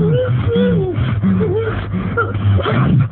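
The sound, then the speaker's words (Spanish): Heavy, rhythmic panting from a man with fur-covered hands, each breath dragged out into a guttural grunt or moaning whimper, half growl and half human lament, repeating roughly twice a second over a low steady rumble, with no words spoken. “Está frente a un hombre, pero no puede mirarle el rostro y solo escucha aquellos jadeos, mitad gruñidos, mitad lamentos humanos.”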